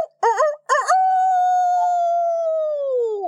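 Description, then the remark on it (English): A human voice imitates a rooster's crow: two quick rising warbles followed by one long, sustained, slightly falling note, loud with no other sounds around it. “What did his crow sound like? Jane asked one evening. It was like this, Wendy said.”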